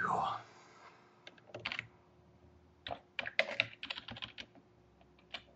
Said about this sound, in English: Just typing a little email to Peter Watt.